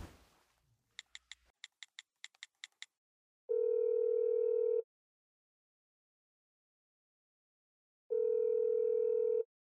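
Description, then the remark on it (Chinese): A quick run of short electronic beeps, then a telephone call tone: two long, steady ringing buzzes separated by a few seconds of silence, clear, with no one speaking, as a husband calls his wife again. “喂，老公，你怎么又打来电话了？”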